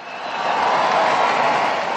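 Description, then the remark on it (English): A large crowd in St. Peter's Square, Vatican City, cheers and claps as Pope Francis gives his Sunday noon address, a dense, steady roar that swells slightly and holds loud for the full two seconds, with no single voice standing out. “But these warm cheers contrast with strident criticism heard outside Vatican walls.”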